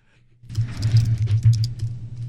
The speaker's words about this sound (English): Want to stop pounding away over there? I'm typing on normal.